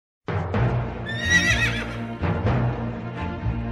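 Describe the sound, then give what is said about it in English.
Badger the horse whinnies loudly, a shrill wavering neigh rising and falling, while hooves clip-clop in uneven steps. No one speaks. “Let's take a little break, and then we'll talk Bartleby and Badger the horse.”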